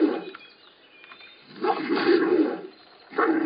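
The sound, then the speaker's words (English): Rough, growling snarls from a wolf in the video game World of Warcraft, fighting the player, two sustained bursts with a short gap, loud, with no talking over them. “No, I'm not dying. I'm not dying to a wolf.”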